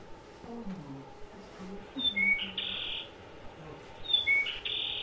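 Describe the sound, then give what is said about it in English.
Wetland bird song at a wetland of water strips edged by sand dunes, with two bursts of high, clear whistled notes over softer low warbling calls and a steady outdoor background hiss; no one speaks. “But there's some pretty nice-looking birds to be found here.”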